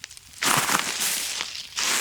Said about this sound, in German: Und wie ihr hört an meinen Schritten, befinden wir uns in einem Waldlaub.